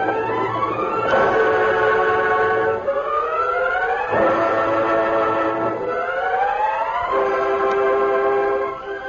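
train arriving

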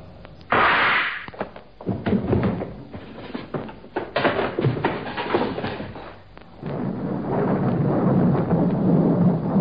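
thunder

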